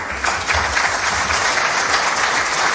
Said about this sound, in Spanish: Un poco más cálido fue el aplauso que recibió la presidenta del Supremo.